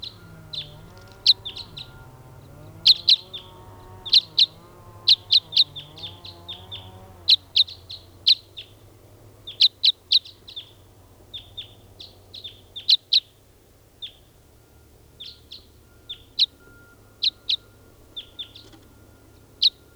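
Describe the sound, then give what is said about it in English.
A bird, recorded as bird 499 during testing, sings in a steady series of short, sharp, high-pitched chirps that come in quick clusters for the whole stretch, with a low murmuring hum underneath during the first few seconds. “Testing now, bird 499.”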